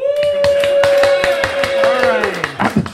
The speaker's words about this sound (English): Make some noise for standing up in a room, y'all. Woo! Woo! Are you recording? Clap again if you're enjoying the football match.